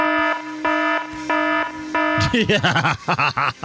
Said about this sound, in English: There you go. He sounded the alarm.